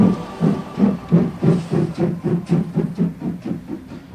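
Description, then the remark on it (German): The Rossiya passenger train, setting off from Moscow to travel across Russia, rolls steadily along the rails, its wheels knocking in a regular, even rhythm over the joints, with a soft hiss of motion underneath and no voices. “Mit unserem Zug Russland machen wir uns nun auf, das Land Russland zu erkunden.”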